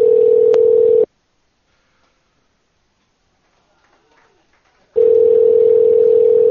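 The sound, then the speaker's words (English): A loud, steady telephone dial tone hums for about a second as a caller is phoned back, cuts to near silence with a few faint clicks, then the same dial tone returns and holds to the end. “Let's call Milkman back now.”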